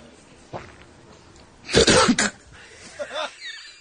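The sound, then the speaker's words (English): A man on camera coughs loudly, a tight cluster of two or three harsh bursts after a near-silent pause, followed by a few faint vocal sounds. “And finally, he stares at the camera, has nothing to say until he starts coughing.”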